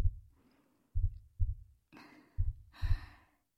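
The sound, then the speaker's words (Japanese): Heavy, quick breaths rush in and out in two or three loud, airy bursts, layered over a steady pair-by-pair thumping of a racing heartbeat. No one speaks. “息遣いも激しくなられて苦しそうです。”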